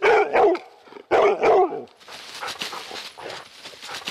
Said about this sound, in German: Da sieht man, das hört man, diese Schnüffelatmung ist extrem anstrengend. Also wenn der Hund wirklich intensiv in der Feinsuche Schnüffelatmung betreibt, dann ist er nach 15 bis 20 Minuten total müde.